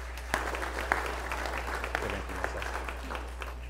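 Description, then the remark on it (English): An audience at First Baptist Church of Glenville applauds steadily for several seconds to welcome new members transferring their membership, a dense wash of clapping with a few sharper individual claps standing out, at moderate loudness with no talking over it. “And so if you agree with that and are excited with that, if you'll just give a round of applause to the Lord for moving them here to our church.”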